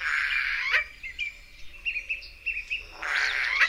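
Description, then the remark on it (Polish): A Eurasian jay calls: a harsh, raspy burst at the start and another at the end, with a string of short, squeaky chirping notes in between. This is one of the few sounds specific to this species. No voices. “Jest to jeden z niewielu dźwięków swoistych tylko dla tego gatunku.”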